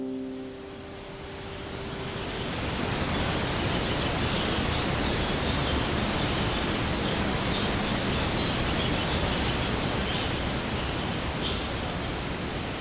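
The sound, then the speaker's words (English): A dense, steady soft rustling hiss of the wings of millions of monarch butterflies fluttering together in overwintering forests around the Monarch Butterfly Biosphere Reserve, Highland Lakes area of Michoacán, Mexico, swelling in over the first couple of seconds and then holding even and continuous, like a light breeze or gentle falling water. “when he talks about listening to monarch wings, Jose Luis means listening to this.”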